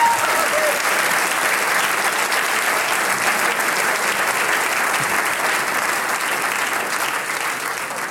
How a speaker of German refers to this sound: Genau so ist es. Das ist ein Applaus wert, ja.